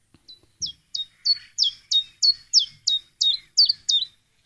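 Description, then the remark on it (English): A chiffchaff sings alone, a steady run of about a dozen bright, high chirping notes repeated at an even pace, clear with no talking. “I'm joined by Angus Kennedy of Nature Northwest, and today's featured bird is the chiffchaff. And Angus, the chiffchaff is a very simple song you're going to play for us now.”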